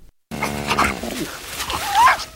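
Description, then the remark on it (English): Sheepdog puppies whimper and yip on a farm in a film, a steady run of high, whiny cries with a few short barks mixed in, over about two seconds with no talking. “when this little pig has arrived at the farm, all the animals can talk, and what we hear is a mother sheepdog talking to her puppies about the pig and briefly with the pig and with a comment thrown in from a horse.”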